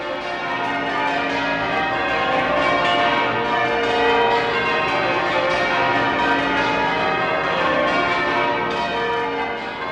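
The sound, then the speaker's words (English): Church bells peal continuously in a dense, overlapping wash of ringing tones, loud and sustained throughout with no pauses and no voices. “The pealing of bells, rather than the single bell tolling, has for centuries been used to mark a time of joy and celebration, and the ending of the war in Europe, at least in May 1945, must have been a celebration to end all celebrations,”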